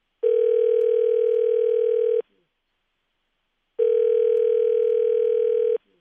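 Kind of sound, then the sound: signal or alarm, telephone dial tone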